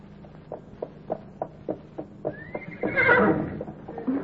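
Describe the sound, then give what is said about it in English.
A steady run of hollow hoof clip-clops from horses being ridden in Oklahoma trots along at a brisk, even pace, then a horse lets out a loud, high whinny that wavers and trails off while the hoofbeats continue. “That's what they're doing down in Oklahoma, Sergeant. Riding the horses.”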